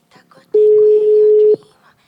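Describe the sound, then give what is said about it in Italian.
A single steady telephone tone from an outgoing call sounds loud and clean for about a second, with faint murmuring voices just before and after it. “Non so chi stiamo chiamando.”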